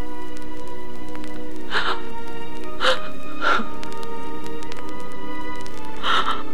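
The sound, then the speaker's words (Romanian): A girl cries in four short, breathy whimpering sobs, spaced irregularly over a few seconds, against a steady low background hum with no talking. “Nu plânge, prietena mea.”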